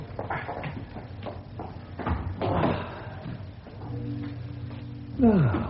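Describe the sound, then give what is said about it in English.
A heavy church door swings shut with a dull thud and a scraping, creaking rattle, followed by a metallic clunk and a rising creak as a bolt is worked into place. “Father Eusebius asked me to tell you to bolt the door after I leave.”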